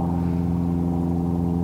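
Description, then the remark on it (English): A steady, low airplane engine drone over the Texan Marsh soundscape hums without a break, its layered tones holding an even pitch and loudness throughout. “After the drone of the airplane engine fades away, the American Robin's evening song begins to be heard.”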